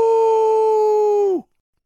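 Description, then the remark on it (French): A single loud, steady whistle blast from an old, rusty steam locomotive, sounded as the engineer pulls the cord while it picks up speed. It holds one bright, reedy pitch for over a second, then sags slightly in pitch and cuts off, leaving silence. “Puis, alors qu'il prenait de la vitesse, Bob le mécano tira sur le cordon et Charlie poussa son courageux coup de sifflet.”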